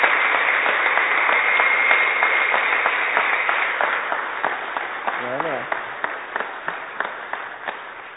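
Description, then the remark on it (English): An audience of men applauding, a dense steady patter of many hands clapping that gradually thins out, with scattered louder individual claps toward the end and a brief voice murmuring beneath. “Gentlemen, I understand that you're clapping because of what God's done in a marriage, and you can see as an example.”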